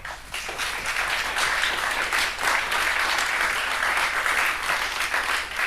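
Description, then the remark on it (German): Sustained applause from an audience for a speaker at the end of a question session, a dense, steady wash of many hands clapping at once, loud throughout without any voices breaking through. “Dann nochmal einen herzlichen Applaus”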